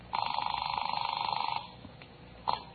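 A telephone bell rings in one long, rapidly trilling burst of about a second and a half, then stops; a short clunk follows, like the receiver being lifted.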